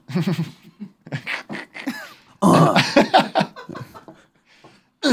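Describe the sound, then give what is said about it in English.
A series of harsh, irregular coughs, loud and raspy with a bit of throat clearing between bursts, coming in uneven fits with short pauses, from a person who has just drunk gritty coffee that tastes like sand. “Cough, fucking cough. It's like drinking a cup of sand.”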